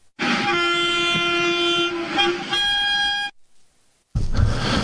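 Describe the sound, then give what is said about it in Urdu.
A Vande Bharat Express train, on the service between Jammu and Srinagar, Jammu and Kashmir, sounds its horn loudly for about three seconds in a long sustained blast. After a short silence, the heavy rumble of the express train passing begins. “توقع زی وندے بھارت ایکسپریس بناوی جم تو سری نگرس درمیان رابطہ مضبوط.”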